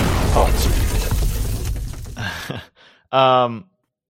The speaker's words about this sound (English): We need like the sound of something catching on fire. I'm gonna add an explosion sound here.